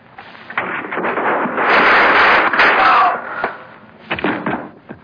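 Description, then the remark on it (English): Sharp gunshot cracks ring out as a man is shot, amid a rushing, noisy burst that swells for about a second, followed by a couple more quick bangs, all sounding muffled and band-limited like an old recording. “I just shot a man.”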